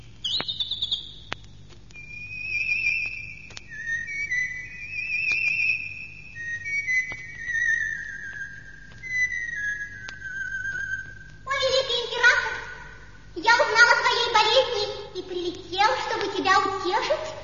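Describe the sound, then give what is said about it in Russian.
A bird sings outside a window, a high, sweet melody of sustained warbling notes and short trills, sliding between pitches for about eleven seconds before a person's voice begins speaking. “Но вот за окном послышалось дивное пение.”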